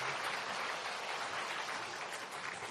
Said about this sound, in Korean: 네, 축하합니다. 다시 박수하겠습니다. 감사합니다.